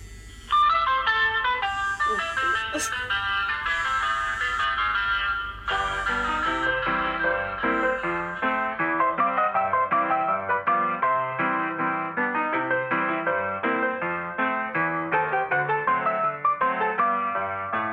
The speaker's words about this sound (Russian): И я вам хочу сказать, что вот даже если сейчас мне позвонить по телефону, то вы тоже услышите джазовую мелодию.